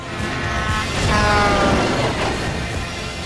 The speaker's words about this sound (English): A lorry stacked with logs hurtles past.